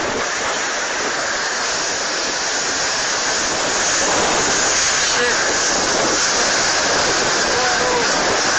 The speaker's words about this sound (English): This is a look inside perhaps one of the strongest storms in recorded history.